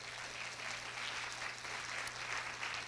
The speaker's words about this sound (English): When He came, people are getting healed. Let's clap to Jesus for that.